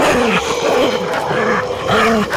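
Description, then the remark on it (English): A dog growls low and steadily, loud, the rumble swelling in several rolling pulses across a couple of seconds with no talking. “The last thing I need is an unhappy pup.”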